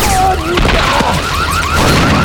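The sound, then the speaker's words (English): A loud, dense burst of explosive crashing as an energy weapon fires into stair treads, with plasma energy flickering along the handrails: rapid sci-fi zaps and whooshing, pitch-sweeping energy blasts layered on top, continuous for a couple of seconds. “There was an explosion, the energy weapon firing into the stair treads, plasma energy flickering along the handrails.”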